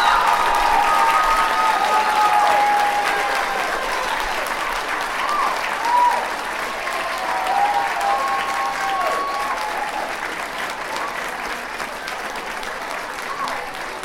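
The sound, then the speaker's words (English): An audience applauds the winners at the 2011 Virginia We the People Middle School awards, steadily and loudly for the whole stretch, a dense wash of clapping with a few voices calling out and cheering beneath it. “Winners as much as we cheer on any of the winners here today and everyone here today.”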